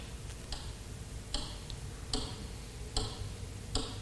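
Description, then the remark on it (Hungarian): A ring taps on a glass display case door in a steady rhythm, five or six bright, sharp clicks spaced under a second apart, over a low background hum. “Halljátok? Nem a körmöm. A gyűrűm.”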